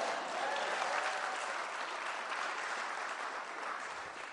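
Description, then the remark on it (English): A crowd at an address to the Illinois General Assembly applauds steadily, a dense, even patter of many hands clapping at a fairly constant loudness throughout, with no voices standing out. “Yeah, that's okay to clap to.”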